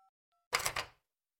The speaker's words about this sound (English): Carol picked up her phone from the table and dialed 911.